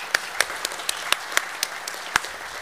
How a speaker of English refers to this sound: Please give one final round of applause to our candidates for Estill County Clerk. And another round of applause for our candidates for Estill County Circuit Clerk.